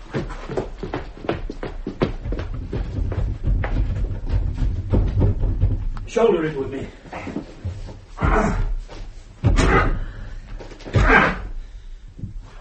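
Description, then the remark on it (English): Someone repeatedly throws their shoulder against a stuck front door that will not open: heavy thuds and rattling bangs in an uneven rhythm, with a few brief strained vocal sounds in between. “Shoulder it with me. It's not going to open, is it?”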